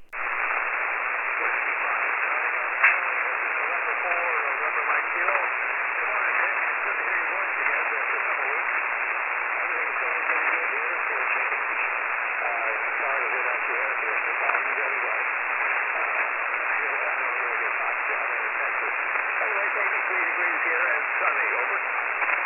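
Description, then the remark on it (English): A weak ham radio signal sits near the receiver's noise floor: steady, narrow-band static hiss for the whole stretch, with a faint, barely readable voice buried underneath. “Really light copy, but there wasn't any interference, so I was able to hear you.”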